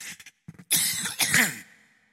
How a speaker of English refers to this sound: I was doing pretty good without coughing here, but excuse me.